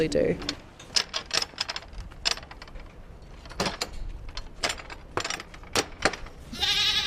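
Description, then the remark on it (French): Goats bleat in brief bursts at the start and end, while a busy run of sharp clicks and rustling knocks fills the space between. “Alors là, ici, il y a des chèvres et des porcs.”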